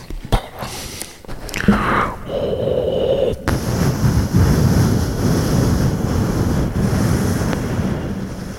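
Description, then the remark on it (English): Someone imitates thunder with their voice: a few short whooshing, tonal sounds lead into a long, steady rumbling hiss that stays loud and rough until the end, with no other talking. “Hang on, I gotta do the thunder noises.”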